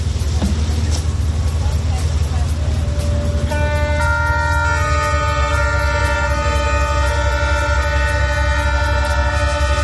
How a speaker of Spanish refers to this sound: En su memoria se ha lanzado una corona de flores al mar mientras escuchaba de fondo el sonido de las sirenas de las embarcaciones.